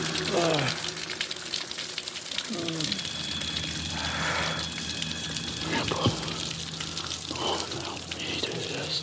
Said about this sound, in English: He's sitting under a waterfall in the cold.